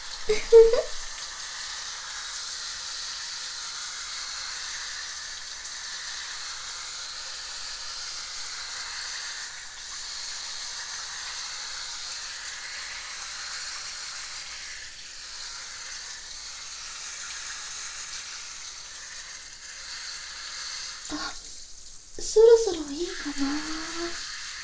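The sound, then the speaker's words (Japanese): Water runs steadily from a shower spray while hair is washed, a constant soft hiss. Brief vocal sounds break in near the start and again near the end. “水の音って癒されないかな？”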